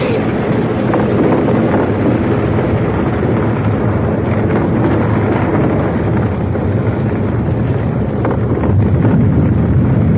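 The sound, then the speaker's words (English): A cliff overhang weakened by recent heavy rain gives way, and falling rock makes a continuous, heavy, low roar that stays loud and steady for the whole stretch, with no voices. “It's just a cliff. There's been a lot of rain recently. Must have weakened the overhang.”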